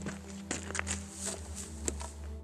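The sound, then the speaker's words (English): Crunching footsteps approach on loose ground near an old mine shaft with a wood-and-steel scaffold, several uneven steps over a steady low hum, with sharp scraping transients and no voices. “After a few seconds, we hear the crunch of approaching footsteps, then a figure steps into the frame.”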